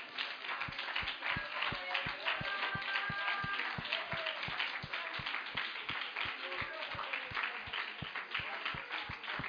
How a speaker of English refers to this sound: Let's lift our hands up one more time and clap our hands unto God and thank Him.